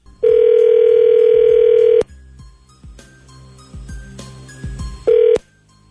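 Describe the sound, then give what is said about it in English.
The K-Rock 98.6 morning radio show places a phone call to a listener: a loud, steady telephone dial tone holds for about two seconds, then gives way to a quick series of dialing clicks and beeps, ending with one short ringing tone. “when we come back, we're going to give her a call, okay?”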